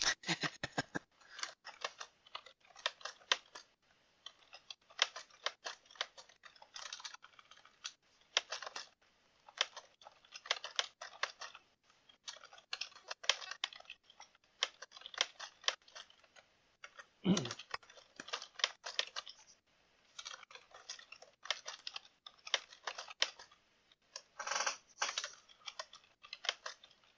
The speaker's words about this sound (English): Oh, he's typing.